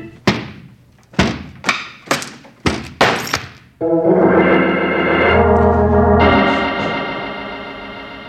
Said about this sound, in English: The door crashed to the floor, and I was so drunk that I fell on it and lay there without moving.